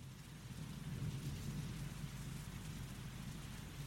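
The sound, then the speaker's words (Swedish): Steady, dense rainfall of a hurricane moving from the Gulf of Mexico toward New Orleans hisses without a break, layered over a deep continuous rumble like rolling thunder. The storm sound is even and moderately loud throughout, with no voices. “Regnet piskar mot Denise Moores ansikte.”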